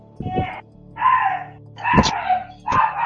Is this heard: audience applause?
no